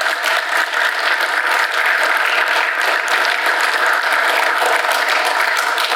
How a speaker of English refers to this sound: But let's give all our volunteers a round of applause.